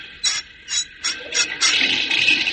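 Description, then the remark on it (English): A metal spigot on an engine boiler is cranked in four quick, rhythmic squeaky bursts, then a steady hissing rush of water flowing into the engine boiler takes over and holds. No one speaks. “Give that spigot a whirl,”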